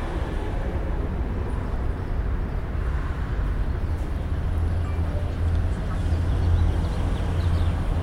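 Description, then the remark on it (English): An eastbound bus to UCR rumbles steadily with a deep, heavy low-end engine drone and road hiss, swelling slightly near the end as it pulls off. No voices. “The bus that just left was the one eastbound to UCR.”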